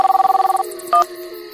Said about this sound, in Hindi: सुनो, मम्मी का फोन ही आ गया।